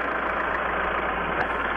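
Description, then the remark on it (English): A tractor engine idles steadily with a constant, muffled diesel rumble that holds unchanged for the full couple of seconds. It is fairly loud, with no voices. “Yeah, let me turn off my tractor here for a minute.”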